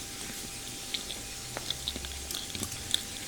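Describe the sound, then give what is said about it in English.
Soft, wet chewing as someone eats a banana, with quiet irregular smacks and squishy mouth sounds over a faint steady background hiss. No one speaks. “Are you chewing? I'm eating a banana.”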